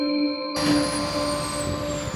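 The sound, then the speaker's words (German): Steady jet turbine whine and droning engine hum from an Air Dolomiti Embraer jet fill an airport apron, jumping abruptly louder after half a second as the sound opens up, continuous with no voices. “So, man hört es, wir haben das Auto wieder verlassen und gehen nochmal ran an den Embraer Jet hier von Air Dolomiti.”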